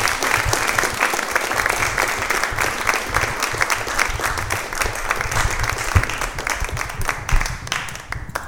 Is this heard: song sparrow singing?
no